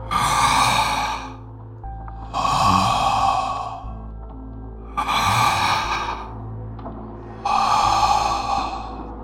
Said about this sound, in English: A slow, shuffling gait, plodding through the dark, up the stairs, down the hall, and right up to the door in front of me. The handler waited there a few long seconds, breathing hoarsely, almost menacingly.